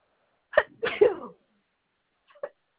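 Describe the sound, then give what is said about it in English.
A loud sneeze with a sharp catch of breath and an explosive burst, then a short pause and a small, quieter sniff-like sound. No talking. “Bless you.”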